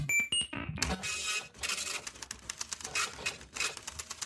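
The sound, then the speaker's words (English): A loud, clattering printer works in rapid mechanical bursts, with a harsh rattling texture and repeated whirring passes. No one speaks. “It's a really loud printer.”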